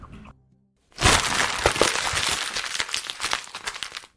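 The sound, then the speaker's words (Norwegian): Exam papers are crumpled up, producing a continuous dense crackling and crinkling that runs for about three seconds after a brief quiet start. “men her kommer i hvert fall lyden, og det blir opp til deg å gjette hvilke eksamenspapirer det vi krøller sammen.”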